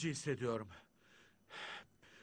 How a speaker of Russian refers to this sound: Как видите, дыхание мое сейчас участилось. Но даже сейчас не я решаю, с какой скоростью мне дышать. Мышцы грудной клетки участили свои сокращения и заставляют меня дышать чаще.